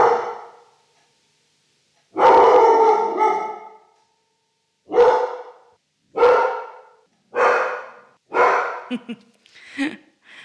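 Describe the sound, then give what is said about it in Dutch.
A female dog barks repeatedly, with loud harmonic barks in an uneven rhythm: one long bark, then a run of shorter ones that shrink toward the end, ending in a few yips. No one talks. “Het is voor mij lastig als die zit te blaffen.”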